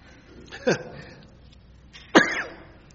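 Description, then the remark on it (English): Two short, rough coughs about a second and a half apart from a speaker who is losing their voice, the second louder, with throat-clearing roughness and no talking around them. “Let me get a cough drop here.”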